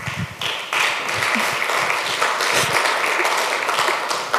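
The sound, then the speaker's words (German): An audience claps in a steady, dense burst of applause lasting the whole few seconds, a bright crackling wash of many hands with no voices over it. “Da klatscht gleich wer gar nicht.”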